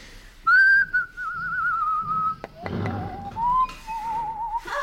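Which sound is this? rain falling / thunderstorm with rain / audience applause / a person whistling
a person whistling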